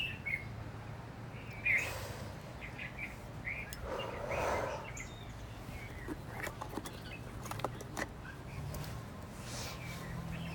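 A small bird sings in a plumeria tree in short, high chirps and trills, fairly faint and scattered over a steady low outdoor hum, with a few soft rustles and movements.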